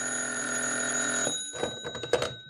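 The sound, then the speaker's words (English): An old-fashioned telephone bell in an office rings loudly and steadily for about a second, then cuts off, followed by a few clattering knocks like the receiver being lifted. “Then the phone rang, and I found out.”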